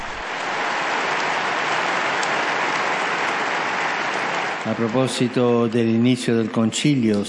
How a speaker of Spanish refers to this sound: Que la Beata María Constanza nos ayude a ser siempre confiados en Dios y acogedores con el prójimo. Un aplauso para la nueva Beata.